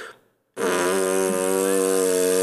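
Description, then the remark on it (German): A brief bit of voice, a short pause, then someone imitates a long, loud dog fart with a steady, buzzing, reedy rasp that holds for about two seconds. “Aber dann auf einmal war so einer, wo ich dachte, Alter, das war richtig männlich. Das war so richtig so.”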